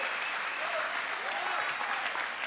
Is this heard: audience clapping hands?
yes